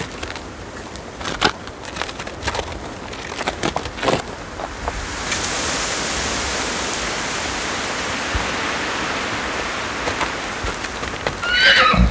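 Several sharp hoof clops ring out over the first few seconds, then a steady rushing noise, like wind, takes over before a horse gives a short, high whinny right at the end.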